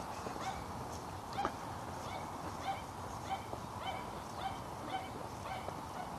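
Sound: dogs barking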